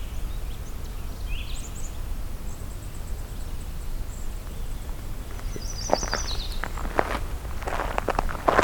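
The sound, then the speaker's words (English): Crunching footsteps on dry ground start partway through and step along unevenly as a person walks over to another section of the area, over a steady outdoor hiss with faint, high bird chirps. “Walk over to the section where I think I heard pine warbler.”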